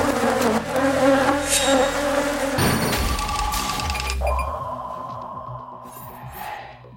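swarm of honeybees buzzing

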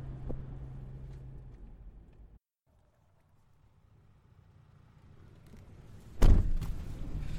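getting into a car

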